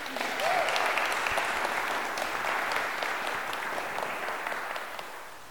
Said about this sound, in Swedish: Jag tycker vi ger honom en applåd.